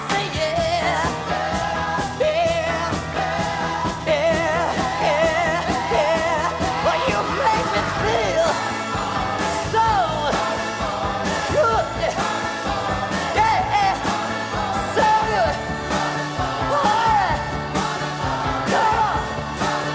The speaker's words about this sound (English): We were in the basement of the 1650 Broadway building at Allegro Studios. We had people from off the street come in screaming and singing background and clapping their hands and everything. That really was how that came together.